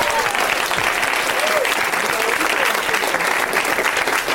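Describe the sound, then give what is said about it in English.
An audience applauds with dense, steady clapping that stays loud and even for several seconds, the many hands blending into a continuous hiss without pauses. “Round of applause for that, everybody.”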